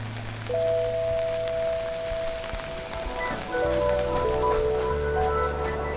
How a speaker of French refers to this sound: On va se mettre à l'abri ? Oui. Parce qu'il pleut assez fortement aujourd'hui à Strasbourg.